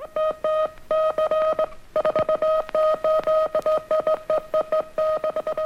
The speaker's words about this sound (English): In the midst of Morse code and high-pitched squeals, Illinois residents heard sporadic broadcasts from radio station 9XJ. In 1921, this station was part of an experiment in the electrical engineering laboratories of the University of Illinois.